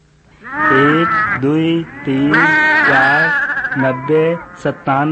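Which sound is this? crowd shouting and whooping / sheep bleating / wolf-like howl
sheep bleating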